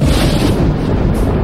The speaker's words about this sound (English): Boy, listen to that thunder. God's doing some serious thinking tonight.